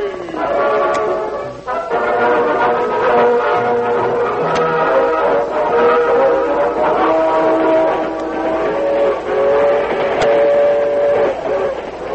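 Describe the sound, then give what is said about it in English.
A passenger train from California rolls along with a loud, steady rumble while sustained, chord-like whistle tones sound over it for the full length, continuous, with no one talking. “Dan Reed, the teenage nephew of the Lone Ranger, was a passenger on the train from California.”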